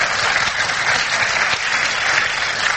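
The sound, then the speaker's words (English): Steady applause from an audience, a dense wash of many hands clapping at an even, fairly loud level for a few seconds, with no voices standing out. “The audience is in sympathy with you”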